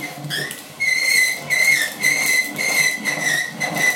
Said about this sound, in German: Und die quietscht. So, die quietscht. Ja, da ist Dreck dran, kann man sagen.